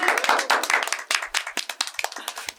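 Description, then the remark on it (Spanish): A small group claps together, a dense patter of overlapping hand claps that thins out into more separate, uneven claps toward the end, with no voices over it. “Un aplauso para todos.”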